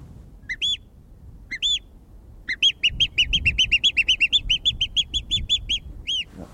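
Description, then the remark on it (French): Someone whistles in imitation of a bird call: a few separate chirps, then a quick, steady run of about twenty bright repeated notes, clear over a faint low background rumble. “Et pourquoi est-ce que vous sifflez les oiseaux alors ?”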